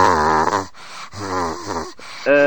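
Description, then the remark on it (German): A child's voice imitates the raspy coughing of men heard on the telephone, with three strained, groaning bursts, the first two long and the last short, loud against a quiet background. “Und da sind dann immer Männer dran, die haben Husten und so. Ganz kratzig.”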